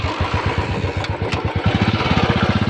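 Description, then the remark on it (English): The single-cylinder engine of a recently relaunched Royal Enfield Bullet motorcycle thumps steadily, its low, evenly spaced pulses quickening slightly toward the end, with a couple of brief high clicks near the middle. “That sound you're hearing belongs to the legendary bike, the Bullet.”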